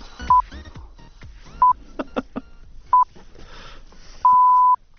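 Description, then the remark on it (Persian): Radio time-signal pips played just before the news: three short, evenly spaced beeps about a second apart, then a longer final tone, clear and steady over faint background clatter and clicks. “برو بوغ آخر رو بزن بگو بچه بیان خبر بخونن.”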